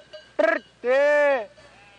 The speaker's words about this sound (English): They answer him with a chorus of bleats. A wave of baas sweeps through the flock. The shepherd mimics them. He baas, they baa back.